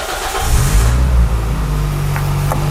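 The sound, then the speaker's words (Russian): A car engine cranks and catches as the car is started before driving off, then settles into a steady rumbling idle with a brief rev at the start. No one speaks. “Сейчас завожу машину и поехали.”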